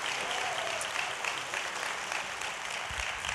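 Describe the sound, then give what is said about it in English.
An audience claps for Jesus, a steady, dense, even wash of applause that holds at a constant loudness throughout without any voices on top. “Come on, put your hands together for Jesus today.”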